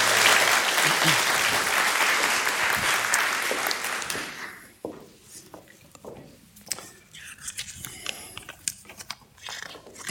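A loud, dense wash of audience applause fills the first four seconds, then fades into scattered claps and faint rustling with a hint of speech.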